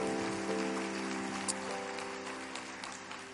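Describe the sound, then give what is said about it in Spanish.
A church crowd claps steadily in a dense, crackling wash of applause for God that holds for a few seconds, with a sustained keyboard chord humming underneath. “Sí, denle un aplauso a Dios.”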